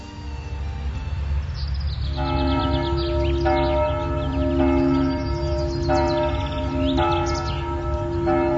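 Church bells in New Belgrade ring out in a steady repeating pattern, their strong resonant tones overlapping and sustaining, with a blackbird singing faintly on top and a low rumble of traffic underneath throughout.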